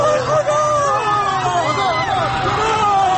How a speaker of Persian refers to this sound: صدای ناله زخمی ها و تیرخورده ها با صدای فریاد جمعیتی که به کمکشان رفته در هم می پیچند.